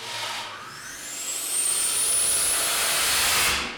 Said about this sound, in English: Now what you're going to hear is you're going to hear the water click in and the solenoid open.